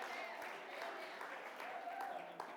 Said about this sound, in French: On l'applaudit.